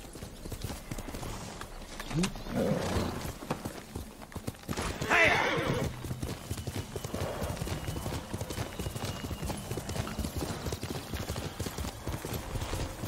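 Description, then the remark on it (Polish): Steady clip-clop of horse hooves runs throughout, with a couple of loud, rising whinnies breaking in around the middle; low rumbling noise sits underneath. “Tam, konik, chodź. Do mnie!”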